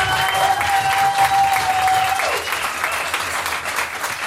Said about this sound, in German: Erstmal riesen Applaus für euch, die ihr alle heute hier seid.